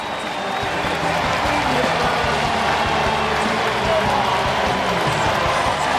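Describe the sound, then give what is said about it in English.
A stadium crowd at PNC Park and Pirates and Mets players on both benches applaud Andrew McCutchen's 2,000th hit in a standing ovation, a steady, dense wash of clapping and cheering that stays loud and continuous for the whole stretch, without breaks or a clear fade. “Both benches, Pirates and Mets players applauding.”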